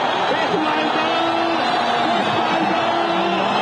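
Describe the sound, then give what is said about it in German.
A dense crowd in Egypt cheers and shouts continuously after the announcement on 11 February that President Hosni Mubarak has decided to step down, many voices overlapping into a loud, steady roar with rising yells and chant-like calls throughout. “Ägypten jubelt.”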